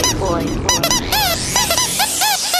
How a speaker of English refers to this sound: This is a record with a lot of toys in it. Plaything duck, duck, toy. No lame duck, no dead duck, no cold duck. This is only a singing duck toy, only a crazy duck.